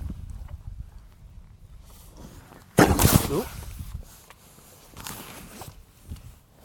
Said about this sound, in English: Oh. Inquisitive horse. Just coughed at me.